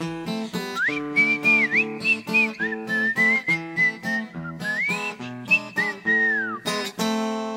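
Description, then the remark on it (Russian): A clear, tuneful whistle through a mustache carries a wavering melody almost continuously over rhythmic chordal piano accompaniment, fairly loud, with no talking. “Брамс играет Шопена и Листа, он гордо свистя сквозь усы.”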